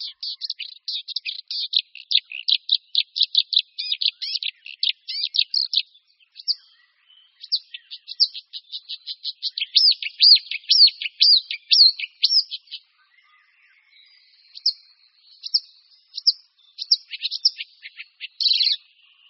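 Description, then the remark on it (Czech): A marsh warbler sings a fast, chattering, high-pitched song of rapid trills and buzzy notes, nearly continuous with a few short breaks, clear with no other sounds. “Protože rákosníci zpěvní, jako i ostatní druhy rákosníků, zimují až v rovníkové Africe, přilétají k nám na jaře jako jedni z posledních, většinou teprve až v první polovině května.”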